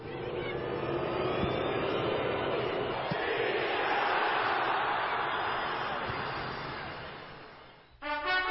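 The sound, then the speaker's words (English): A huge stadium crowd in Rio chants "Zika" and boos at U.S. goalkeeper Hope Solo in a dense, continuous roar that swells through the middle, tapers off, and then breaks abruptly into a different sound at the very end. “goalkeeper Hope Solo was shouted at, and the crowd began to yell, Zika, Zika, Zika.”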